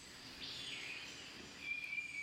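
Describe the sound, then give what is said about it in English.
Faint birdsong recorded outdoors in summer by a waterproof recorder strapped to a tree in southern Minnesota: a few thin, high whistled notes drift over a soft, steady background hiss, with no one speaking. “They pressed record and collected the sound of birds for 6 weeks, day and night.”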